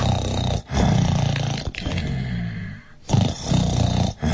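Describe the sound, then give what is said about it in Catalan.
Loud, deep, rumbling snores of a sleeping giant in a castle: roughly four long growly breaths with brief pauses between them, rough and low-pitched, with no talking. “I feia uns roncs que tot el castell tremolava.”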